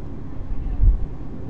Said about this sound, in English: Is that another boat going by?